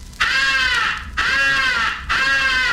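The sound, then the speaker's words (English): Three long, loud, raspy highball crow calls blown on a call, one right after another with brief gaps, each a harsh drawn-out caw rich in overtones. “The highball crow call is sometimes advocated for attracting the attention of distant crows.”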